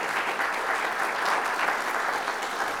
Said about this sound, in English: And so even though they're not here, let's give them a round of applause and praise God for them.